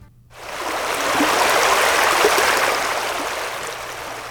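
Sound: rushing stream water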